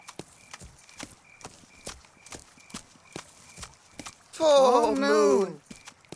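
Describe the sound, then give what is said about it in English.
Footsteps of a sheep and a duck walking clop along in a steady, even rhythm, fairly crisp, then stop as a brief wavering vocal call rises for about a second. “The sheep and the duck walk and walk.”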